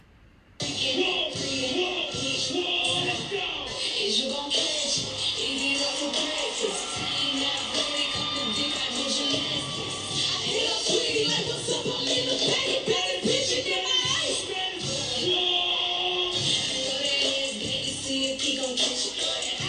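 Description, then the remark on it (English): A loud, dense crowd at a live performance roars continuously for nearly twenty seconds, with overlapping cheers, yells and whoops rising and falling in a steady wall of noise after a brief quiet start. “Do you hear the crowd?”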